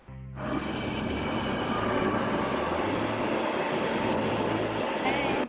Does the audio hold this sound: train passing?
yes